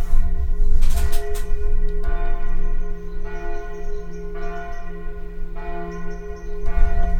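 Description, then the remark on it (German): Catholic church bells ring continuously a quarter of an hour before evening mass, calling people together, in a full, overlapping peal, their strong low tones sustained and resonant, with repeated loud clangs; no voices are heard. “Sind unsere katholischen Freunde, die läuten eine Viertelstunde vor der Abendmesse.”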